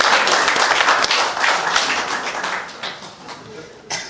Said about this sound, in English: Okay, could everybody applaud for me then, please? Thank you.